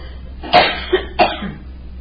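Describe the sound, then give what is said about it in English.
A person with throat trouble coughs twice in quick succession, with a short throaty rasp between, fairly loud, against a faint low hum. “I have a cough drop here. I'm having trouble with my throat again.”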